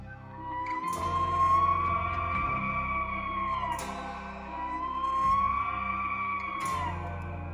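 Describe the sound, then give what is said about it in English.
Two long bugle calls from a Roosevelt elk bull, each a high, sliding whistle with a rough, breathy roar underneath, rising and falling over a few seconds. They ring out loud, with no talking. “The bull's distinctive bugle call is a cross between a whistle and a roar.”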